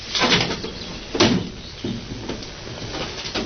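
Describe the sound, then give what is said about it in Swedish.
A window slides open with a few scraping, knocking bursts, followed by a quieter rattle and faint background noise, with no one talking. “Ja, då får man nog öppna.”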